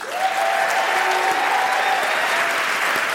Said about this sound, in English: I'm holding for applause.